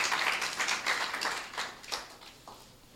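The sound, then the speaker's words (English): A crowd applauds the tech team steadily for about three seconds, a dense wash of overlapping handclaps with occasional sharper individual claps standing out, moderately loud and fading slightly toward the end. “Let's clap for our tech guys. Let's clap for them.”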